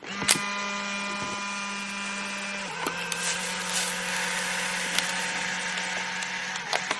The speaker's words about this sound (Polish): I pozwólcie, że zanim cokolwiek o tym powiem, przywołam dźwięk, który możecie znać. Oto uruchamiam właśnie aparat błyskawiczny, aparat Instant, i wykonuję zdjęcie.